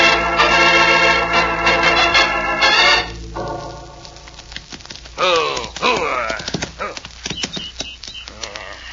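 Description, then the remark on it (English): Horse hooves gallop in a quick, steady clatter, mixed with sustained tonal sound and brief voice-like cries, fairly loud throughout. “Oh, you're a fast horse. You're a good horse.”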